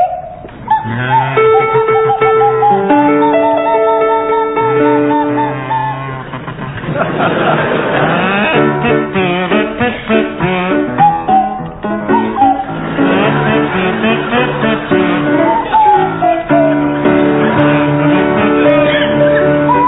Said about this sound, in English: Will you provide us with a version of the Camptown Races featuring Fred McCauley on the kazoo and Tim Brooke Taylor on the Swanee whistle?